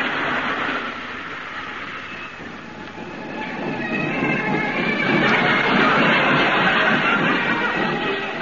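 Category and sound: vehicle, train on rails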